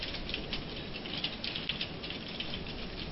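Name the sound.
typing on a keyboard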